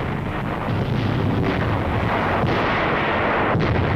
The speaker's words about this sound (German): Ich sehe, wie die Bomben explodieren. Helle Blitze. Nürnberg brennt.